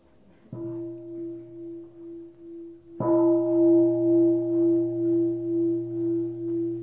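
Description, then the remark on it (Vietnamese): A deep temple bell is struck twice, about two and a half seconds apart, each strike ringing into a long, steady, humming tone that swells and pulses gently as it sustains. “Nghe một tiếng chuông.”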